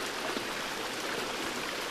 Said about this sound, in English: Let the sound of the water penetrate deeply into your heart.